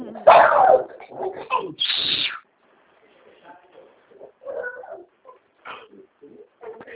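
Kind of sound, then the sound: animal, small dog barking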